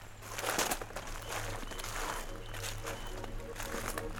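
Footsteps crunch steadily along an outdoor path in a forest over a constant rustling forest ambience, with a low, steady rumble underneath; the steps are moderately loud.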